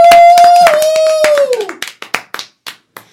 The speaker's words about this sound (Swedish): Men nu kommer kvällens headliner. Ge en varm applåd för Simon Gärdenfors!